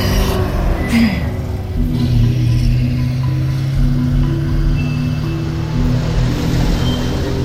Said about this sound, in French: Quoi ? Les 33 tonnes en queue de convoi. On dirait des camions militaires.